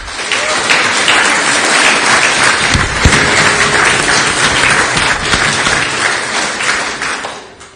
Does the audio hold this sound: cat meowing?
no